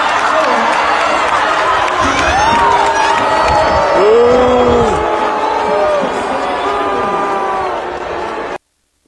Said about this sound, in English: The booing. Well, at least the crowd is free to boo.